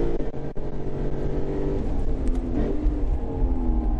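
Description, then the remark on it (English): A big 5-liter V8 car engine accelerates with a deep, loud rumble, its harmonic drone climbing steadily in pitch as it revs up, continuous without any talking. “I really like the 5-liter V8. Not just how it sounds, but every time you tip in, it's got power right there.”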